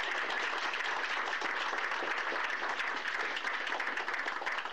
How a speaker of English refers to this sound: They've been such a good thing for the independent arts scene, so can we clap for Raw Sugar?